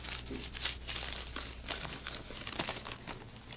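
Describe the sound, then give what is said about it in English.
Steady rustling and crinkling of paper being unfolded, a dense run of irregular crackles and soft tears lasting a few seconds with no one speaking. “He mentioned a paper. Here.”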